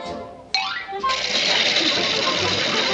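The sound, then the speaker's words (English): A sewing machine runs with a loud, steady mechanical whir as someone catches up on sewing, kicking in after a few brief rising whistle-like tones and continuing without a break to the end. “I'm catching up on some of my sewing.”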